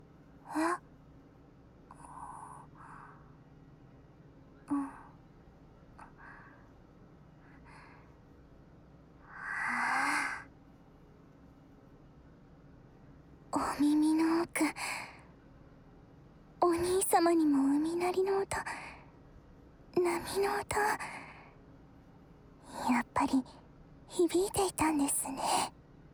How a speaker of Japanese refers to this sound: お兄ちゃんのあくびの伝染力すごい。